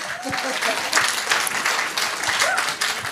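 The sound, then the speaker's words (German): An audience applauds in a steady, dense wash of many hands clapping, holding a fairly even loudness throughout, with a few faint voices mixed underneath. “Und ja, großer Applaus.”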